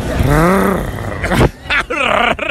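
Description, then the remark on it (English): A human voice imitates a panther's call: a long, loud, low growling roar, then two shorter wavering yowls that rise and fall in pitch. “What would that animal's mini call sound like? So the panther.”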